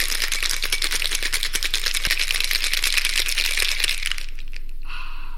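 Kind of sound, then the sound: household object, cocktail shaker being shaken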